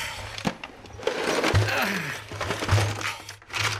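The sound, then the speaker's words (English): The contents of a kitchen drawer, utensils and odds and ends, are emptied onto a hard floor: a burst of clattering, rattling and sharp knocks, uneven and fairly loud, tumbling on for several seconds over a low hum. “He brings me in and empties the kitchen drawer onto the floor.”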